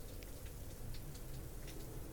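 Steady rain drumming on a roof, a dense continuous patter with scattered individual drops ticking through, fairly quiet and even throughout, with no voices.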